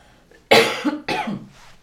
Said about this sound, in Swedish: Nu måste jag hosta igen, ursäkta.